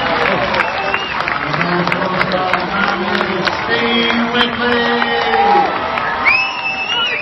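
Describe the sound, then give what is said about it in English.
A dense crowd of fans at a Ravens match, with a confirmed attendance of 1,811, roars and cheers steadily, with scattered clapping, many overlapping voices shouting, and a few sharp rising whistles near the end. “With a confirmed attendance of 1,811 people there, firstly listen up to the crowd that we got an extract from.”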